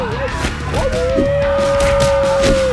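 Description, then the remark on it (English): A long wolf howl swoops upward, then holds a steady, loud, sustained note for nearly two seconds over a busy, noisy background with scattered sharp bursts. “Jack added his own wolf howl to the screams of his wounded victims.”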